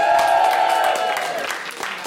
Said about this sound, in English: I tell you, it is nicer being cheered than booed. I can tell you that much.